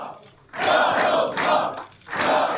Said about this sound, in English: There were chants of "We will win" in the crowd.